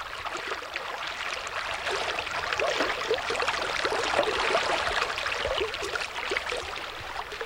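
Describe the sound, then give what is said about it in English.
Steady burble of the San Pedro River in Arizona, southeast of Tucson near the Mexico border, flowing over shallow stones, a continuous bright trickling wash with small splashy transients, no voices; cloudless sky with the sun setting and cottonwood trees on the bank. “we're standing here on the banks of the San Pedro River.”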